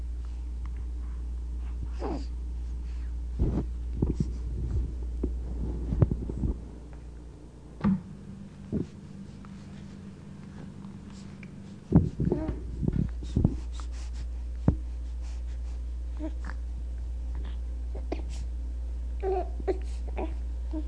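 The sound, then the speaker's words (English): A hungry newborn boy, struggling to get to the breast, makes throaty grunts and strained, heavy breathing in short irregular bursts while flailing his arms and kicking his legs, with a few small whimpering sounds over a steady low background hum. “Most of the sounds are in the back of the throat, and there's a lot of breathing being done.”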